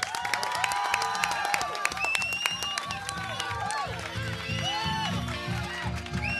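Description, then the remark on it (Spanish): A crowd applauds steadily to send off four performers at the end of a show, dense overlapping claps filling the whole stretch at an even, loud level, with voices calling and cheering over the top. “Los despedimos con un aplauso.”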